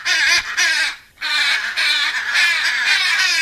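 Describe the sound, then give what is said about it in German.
Harsh, raucous macaw squawks fill the scene almost without pause, loud, with a brief gap near the start before the grating calls resume in overlapping bursts. “Sind eigentlich sehr gesellige Vögel und leben in kleinen Familienverbänden, aus mehreren Paaren bestehend und dann eben den Jungtieren sozusagen kleine geräuschvolle Horden.”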